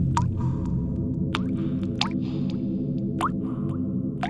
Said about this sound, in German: Oder es tröpfelt eigentlich nur. Es wird hier übrigens über Mikrofone an der Messstelle aufgenommen und dann über die Lautsprecher um uns herum für alle hörbar gemacht. Ein bisschen Hall und es klingt so ein bisschen wie in einer Tropfsteinhöhle.